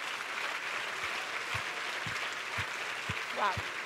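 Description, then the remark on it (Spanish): A crowd applauds in a dense, steady wash of clapping, with regular low thumps about twice a second underneath and a brief rising cheer or whistle near the end. “Ay, sí, ese es el aplauso.”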